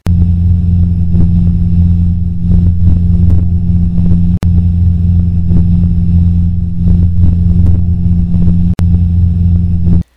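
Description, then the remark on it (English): A steady, muffled light aircraft engine drone fills the whole recording, heard through a David Clark H10-13.4 passive aviation headset: a constant deep, low hum with a dulled, filtered quality. Occasional faint clicks punctuate it; no one speaks. “So the David Clarks do block a lot of the noise from the engine.”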